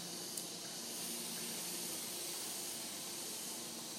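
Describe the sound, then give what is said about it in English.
A long, steady hissing breath drawn in through clenched teeth during the Sitkari breathing exercise, lips open and jaw relaxed, a soft airy rush that holds evenly for about four seconds with no voices. “The lip hangs open, no stress in the jaw, teeth together, loose face, and then you inhale like a hiss.”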